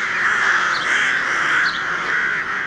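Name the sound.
raven cawing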